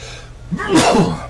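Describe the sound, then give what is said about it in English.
A single forceful sneeze with a quick sharp intake before the explosive burst, then a brief trailing exhale. “Bless you.”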